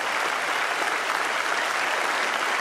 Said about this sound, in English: Applaud now, older people. Come on, come on.